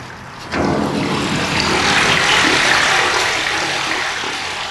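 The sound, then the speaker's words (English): Water from a well, driven by an electric pump, pours into a 4,000-gallon water tank with its lid lifted. A steady, hissing rush swells abruptly after a brief quieter moment, then holds loud and continuous, easing slightly at the end. No voices are heard. “climbs a ladder 12 feet up to the top of her 4,000-gallon water tank and lifts the lid so I can hear it fill.”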